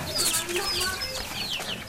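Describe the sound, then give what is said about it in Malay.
Chickens clucking and chattering, a busy overlapping run of short calls with no one speaking. “Mau ngasih ayam yang satu.”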